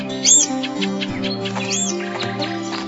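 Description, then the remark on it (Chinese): A small bird gives a few short, high chirps, scattered, as it is set free at a Buddhist life-release event in Taiwan, over a steady bed of soft background music with no one talking. “小鸟啊，以后你可要小心点，别再被人抓住了。”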